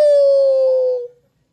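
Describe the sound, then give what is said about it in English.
A man's voice imitates a howl: one loud, sustained wail lasting about a second, sliding slightly downward in pitch before cutting off into silence. “What does it mean to howl?”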